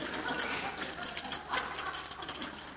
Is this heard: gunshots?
no